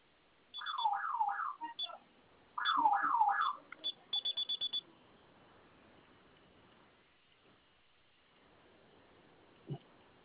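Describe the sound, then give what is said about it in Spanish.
A home alarm system siren, set off by pressing its two fire-icon buttons at the same time, wails in loud rising-and-falling sweeps in two bursts, then gives several short beeps and cuts off once the user's code is entered, leaving quiet background with a faint thump near the end. “Listo, en cuanto colocó su clave se silenció la sirena, ¿verdad?”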